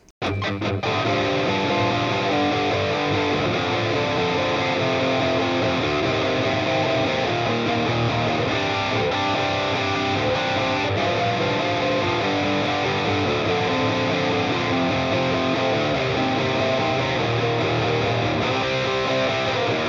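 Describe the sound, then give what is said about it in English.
Heavily distorted rhythm guitar for a chorus, double-tracked through an amp sim and panned hard left and right, chugging steadily and loudly with dense, saturated tone and no voices; the B string rings on over the riffing in the left-hand track. “I've got a traditional set of doubles soloed, panned hard left and hard right. This is going to be the rhythm guitar part”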